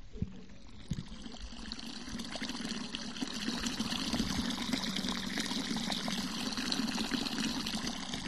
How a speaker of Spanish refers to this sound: habrá que amenizarlas con agua, a ver qué tal corre el agua de la fuente.